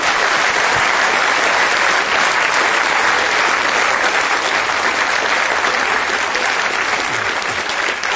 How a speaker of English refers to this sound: Thank you. Let's give a round of applause to...